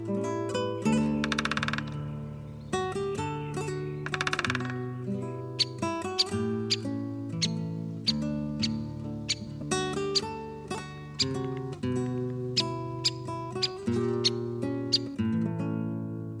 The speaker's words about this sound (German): Das war der Buntspecht.